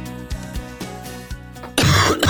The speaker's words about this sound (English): Getting all the coughs out. Get them all out. Yep. That was actually recorded. I recorded that one.